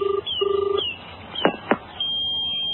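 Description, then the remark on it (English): A few short touch-tone beeps of a phone number being dialed on a portable phone to call Margaret Thatcher, followed by a couple of clicks and a steady line tone, clear with no talking. “Okay, if these guys are British, I'd better phone Margaret Thatcher and see what she wants me to do.”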